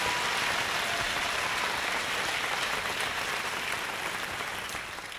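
Sustained audience applause, a dense steady wash of many hands clapping at an even loudness that tapers slightly toward the end, with no voices on top.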